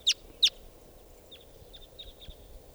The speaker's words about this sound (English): This is that female. Other wild crossbills coming in here.